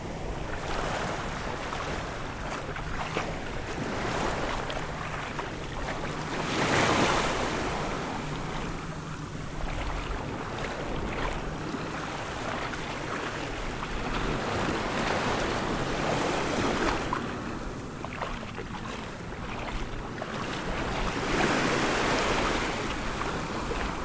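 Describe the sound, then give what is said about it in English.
Ocean water sloshes and washes around the legs of a person wading into the surf, with broad surging swells every few seconds and a steady wind rumble, no voices. “Maybe I want to see how quadraphonic it sounds when I'm actually in the water.”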